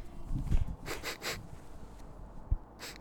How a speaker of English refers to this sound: What are you doing? Smelling. Sniffing. Sniffing for what? Diesel. Diesel? The fragrance for men? No, the fuel.